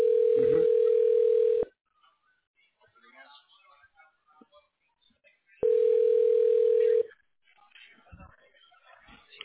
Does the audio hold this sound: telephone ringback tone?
yes